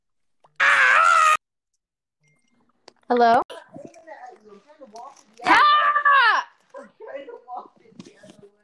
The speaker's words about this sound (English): I heard screaming.